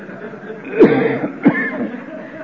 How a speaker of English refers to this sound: Lord, I keep coughing. That cough is due to the fact that I don't smoke enough because people... Every time somebody cuts me off from these camels, I start coughing.